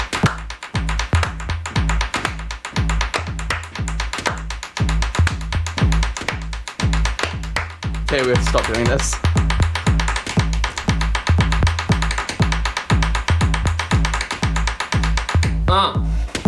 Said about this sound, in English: Pencil percussion.